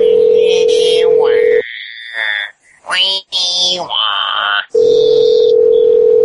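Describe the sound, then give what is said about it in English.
A voice mimics a fax machine: a steady droning tone, then a burst of rising, warbling screeches and chirps, and the flat tone returns at the end. “That's my impression of a fax.”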